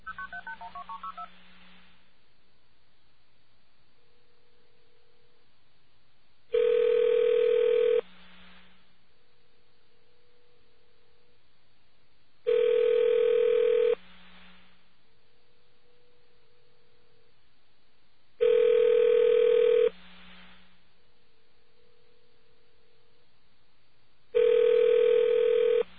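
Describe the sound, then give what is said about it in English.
Telephone line tones while calling the National Security Agency, with no voices: four loud buzzing tone bursts repeat about every six seconds, separated by a fainter, steady hum, after a brief opening flutter of dialing tones. “See if the National Security Agency, first of all, answers the phone with National Security Agency, and if they will identify themselves after we connect with them.”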